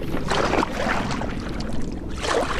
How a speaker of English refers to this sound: With a push, our canoe begins its journey down the river.